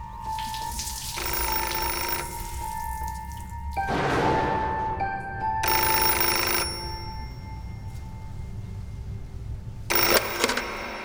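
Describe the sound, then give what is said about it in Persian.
An old-style telephone bell rings in several separate bursts for a call from abroad, each burst lasting about a second, clear over a low steady background hum, with no one speaking. “تا 10 سال پیش یه تلفن از خارج داشتم.”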